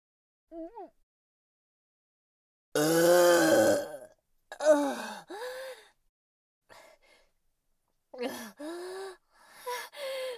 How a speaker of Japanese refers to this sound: 私のゲップ、見られてしまいました。王子の前でザーメン臭いゲップしてしまいました。